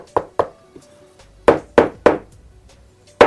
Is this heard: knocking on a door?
yes